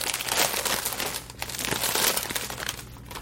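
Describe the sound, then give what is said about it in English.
A crinkly chip bag is pulled open, producing a steady stretch of sharp, bright crackling and rustling with a few louder crunchy bursts, and no talking. “I guess I'm going to open it up.”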